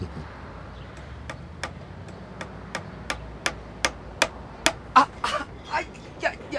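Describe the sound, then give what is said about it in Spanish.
A hammer strikes repeatedly at a steady, fairly quick pace, about ten sharp knocks, then a few louder, more irregular blows at the end over a faint background hum. “Que este martillo es un jodido, no ve cómo me dejó el dedo.”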